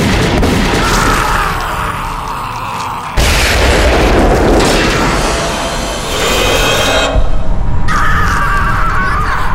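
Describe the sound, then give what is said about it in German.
Loud, rumbling explosions of an inferno several hundred meters away, set off by a cross thrown into a pit, roar across the whole clip, with sharp new blasts bursting in around three and eight seconds over a continuous fiery crackle and deep booming. “Mit diesen Worten warf er das Kreuz in die Grube und löste damit einige hundert Meter weiter ein Inferno aus.”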